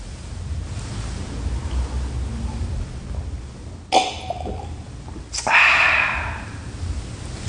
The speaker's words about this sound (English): Sounds of water.